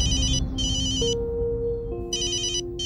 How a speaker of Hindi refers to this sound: माँ, फोन उठाने दो।